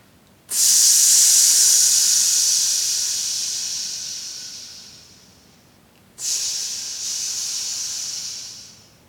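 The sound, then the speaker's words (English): A voice makes a sustained snake-like "sss" hiss, the breathing-exercise sound for the lungs, that fades gradually. After a brief pause, a second, shorter hiss follows. No words are spoken. “This is S-S-S-S-S, like a snake.”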